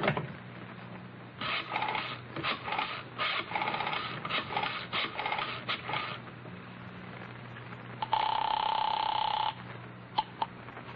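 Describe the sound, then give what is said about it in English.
A telephone is dialed to call the caller's mother, with a series of mechanical clicks and whirs, then a single steady ring sounds over the line for about a second and a half, with no talking. “will you phone your mother or must I? All right. I'll do it.”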